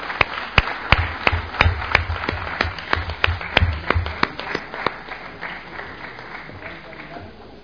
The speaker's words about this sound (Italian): Direi che le facciamo anche un bel applauso.